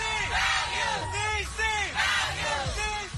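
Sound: parade crowd chanting slogans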